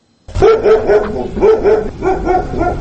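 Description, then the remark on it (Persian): Several stray dogs bark repeatedly in a loud, overlapping chorus in the streets and bazaars of the town of Khorugh, sharp barks following one another for the whole stretch, with a faint whimpering yip mixed in. “ولی با این حال شمار سگان دایدو در کوچه و بازارهای شهر خارق کم نشده است و ساکنان هم میگویند که در مبارزه با این گروه سگان دایدو دست کوتاهی دارند.”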